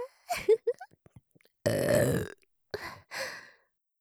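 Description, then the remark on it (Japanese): A loud burp lasting under a second, rough and gravelly, bracketed by a few short breathy vocal noises before and after it. “ではでは、オナニー専用ゲップ失礼します。”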